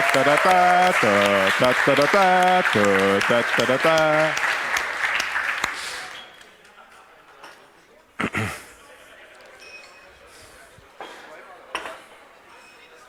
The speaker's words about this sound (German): Ein Applaus für die Bar, bitte.